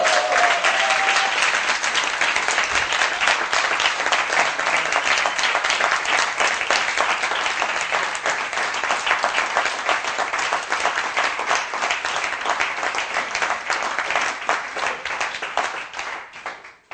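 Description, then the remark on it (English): A large audience bursts into sustained, dense applause for a couple, many hands clapping steadily at full volume for the whole stretch before it tapers off at the very end. “And I would like us not to be too British, and I would like us to applaud this couple.”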